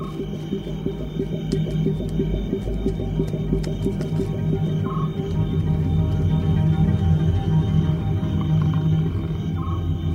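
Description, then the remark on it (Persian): A dense chorus of frogs croaking continuously, with layered, pulsing low calls filling the whole stretch at a steady, fairly loud level and a few brief higher chirps over the top. “یک جنت می خواهد قورباغه ای را شکار کند.”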